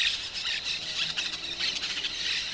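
A flock of parakeets keeps up a dense, continuous chorus of shrill, harsh squawks and squeals, many calls overlapping at a steady, fairly loud level with no voices present.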